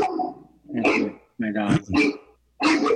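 animal, dog barking

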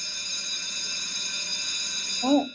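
signal or alarm, bell ringing

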